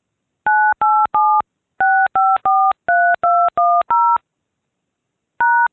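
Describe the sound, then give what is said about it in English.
Touch-tone keypad beeps dialing a phone number to forward incoming calls in an automated phone system: ten crisp dual-tone presses in quick groups of three, three and four, then a pause and one final tone for the pound key, loud with no talking. “Dial the phone number where the system is to transfer incoming calls, then press pound.”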